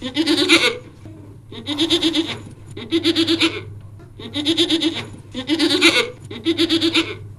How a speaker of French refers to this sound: Oui, Pilou, il voit des moutons. Et des chèvres.